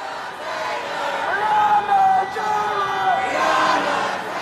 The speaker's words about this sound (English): The crowd of protesters in Louisville Thursday was just as big as the night before.